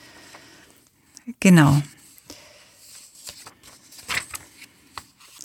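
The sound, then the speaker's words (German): Paper pages being turned: a few brief, crisp rustles spread across a few seconds, with one short spoken word near the start and faint background murmuring. “Ich muss kurz blättern.”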